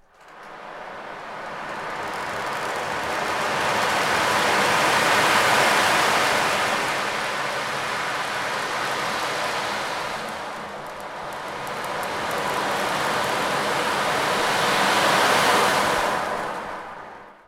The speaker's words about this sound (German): Darunter auch einige exotische, wie die Ocean Drum, die Meerestrommel.